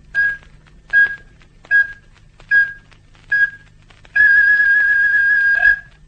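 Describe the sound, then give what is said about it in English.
Radio time signal pips giving the 9 o'clock time signal from Snooktown: five short, steady high beeps about a second apart, followed by a longer final tone. No voices, just a faint low hum underneath. “We are sorry that the 8 o'clock time signal is not yet to hand, and so Snooktown, 1 hour and 14 minutes ahead of the world, gives you the 9 o'clock time signal.”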